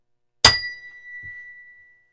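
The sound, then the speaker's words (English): A single bell strike rings out with a sharp attack, then a clear high tone that lingers and fades over about a second and a half, with a soft thump partway through. “But now, you gotta ring the bell.”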